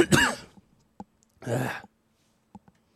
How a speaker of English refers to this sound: I'm just going to have a cough throughout the show. Deal with it. Just before we started doing the show, there must have been an air pressure change. My ears are all blocked.